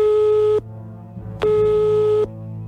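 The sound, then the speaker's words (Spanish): Two steady electronic ringback tones from a phone line as the radio show Despierta San Francisco calls a listener, each lasting under a second with a short pause between them. They sound clear and fairly loud over a faint background hum, with no one talking. “Y nosotros sí que le llamamos al teléfono.”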